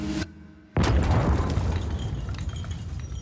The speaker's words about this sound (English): Out of nowhere, a deafening explosion shakes the entire building. As the lights go out, the woman is thrown onto the floor and plunged into a suffocating cloud of dust.